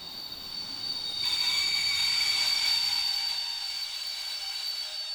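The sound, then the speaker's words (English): A train rolls through platform 3 of Weimar Railway Station with a steady rumble and a sustained, high metallic wheel squeal that swells midway and stays loud throughout. No voices are heard. “This is platform number 3 at Weimar Railway Station.”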